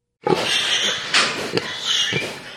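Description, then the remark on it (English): Sick pigs on a hog farm near Nokomis, Illinois, a litter with porcine epidemic diarrhea virus (PED), grunt and squeal in a noisy, continuous chorus, with sharper squeals breaking through now and then; no one speaks. “This is Phil Borgick's hog farm near Nokomis, Illinois. And these are some of his sick pigs.”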